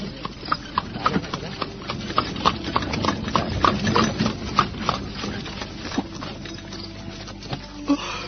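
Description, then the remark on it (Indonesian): A horse-drawn carriage clatters steadily along a rough, stony road, with irregular hoof clops and wooden creaks mixed with a constant rumbling roll, moderately loud, while a man holds the horse's reins. “Sementara itu kereta terus bergerak menyusuri jalanan berbatu.”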